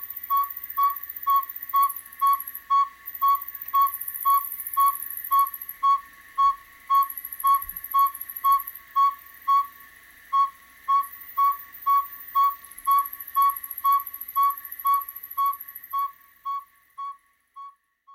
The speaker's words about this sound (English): it's one of the most common owls in North America, but they're highly nocturnal and they're rarely seen. They also are cavity nesters, and they also roost in deep in evergreen forests during the day.